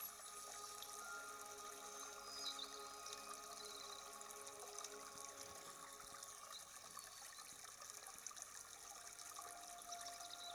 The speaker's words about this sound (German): Betrachte einfach die Wellen, wie sie kommen und gehen, wie ein ruhiger Atem. Sie fließen sanft ans Ufer, umspülen deine Füße und fließen wieder hinaus